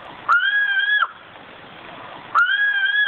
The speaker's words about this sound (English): before I say bye to you, let's listen to the Sumatran ground cuckoo one last time.